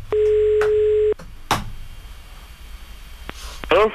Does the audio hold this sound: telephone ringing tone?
yes